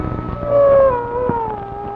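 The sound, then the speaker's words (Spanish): Drawn-out, wavering howls of coyotes on a dark night before moonrise rise and slowly slide downward in pitch, a sustained mournful call, with no talking. “Por lo visto los coyotes quieren cantar al son de mi acordeón.”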